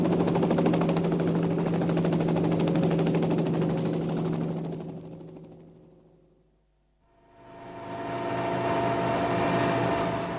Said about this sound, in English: what the hell do you think you're trying to do, land this helicopter on my place?" "Shut up and get in the chopper." "Get in? How else are we going to get you to this wonderland of happy children with bad teeth?" "Hang on, friend. I'm taking her up.